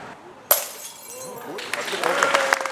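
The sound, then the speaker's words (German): A wine glass is thrown and shatters with a sudden sharp crash, followed by a couple of seconds of scattering, tinkling shards, as part of a carpenter's traditional topping-out ceremony for a hybrid-construction timber high-rise in Germany, currently the country's tallest. Faint voices murmur in the background. “Des Glases Scherben, der funkelnde Wein, sie sollen des Glückes Unterpfand sein.”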